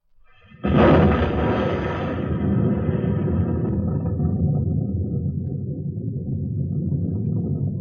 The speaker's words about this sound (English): There it goes. There it is. You'll hear the sound of the explosion any second now.